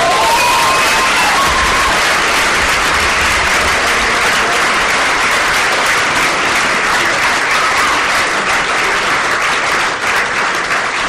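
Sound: audience applause and cheering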